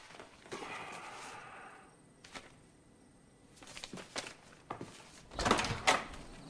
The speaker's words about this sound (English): He walks out of the front door and across his lawn, his mail in his hand.